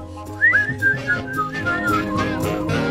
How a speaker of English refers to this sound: Can we do a chorus of people whistling along?